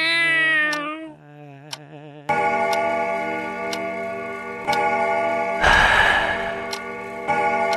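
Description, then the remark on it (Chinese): A cat kept by an elderly person meows with a wavering, drawn-out cry at the start, followed by a steady tonal hum punctuated by regular, clock-like ticks. “一个老人，一只猫，两把椅子，一把空着，两只碗，一只喂猫，一盘残棋，一个人下，一首老歌唱给猫听。”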